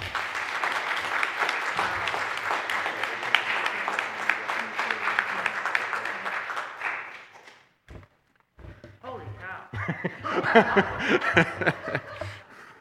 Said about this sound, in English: As a further act of appreciation, I would like to lead this congregation in a round of applause for all you do.